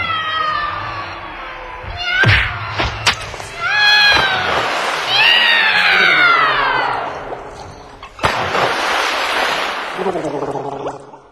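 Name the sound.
cats yowling and caterwauling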